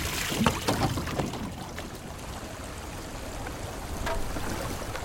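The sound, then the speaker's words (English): Water splashes and sloshes as someone wades into the river Styx, with a few knocks and bumps early on as they climb aboard Charon's small boat, then gentle lapping continues. “Orpheus enters the water and boards Charon's vessel.”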